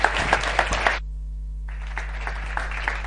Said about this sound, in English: I'll just you just clap hands for him and cheer him up a bit.